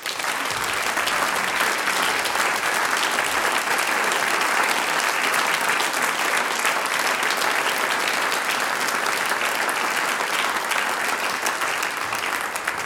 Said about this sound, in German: Applaus für euch. Alle Stickel selbst komponiert und großartig aufgespielt. Applaus für die steirische Landmusik.